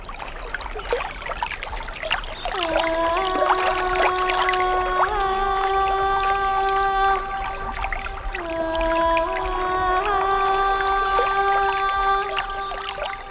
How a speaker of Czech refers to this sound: Potok je po zimě rozvodněný. Voda místy přesahuje bahnitý břeh. Rozryté strouhy jsou plné žlutavé pěny, v ní zachycené listy a chmíří zvířat.